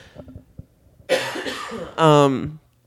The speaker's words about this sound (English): Here I am talking about what you should be doing for your health. And I'm literally coughing like a 4-year-old.